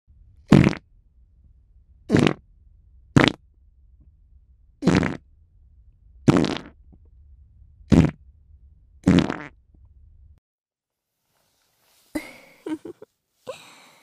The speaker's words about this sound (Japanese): まだまだ出るからね。ママの臭いおなら、まだまだ出るからね。